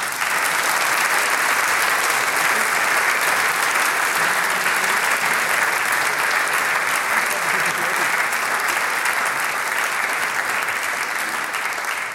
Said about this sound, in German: Die Gruppe Weststeirisch zusammengewürfelt bedeutet für mich? Das halbe Leben. Und ich denke, das ist einen großen Applaus wert.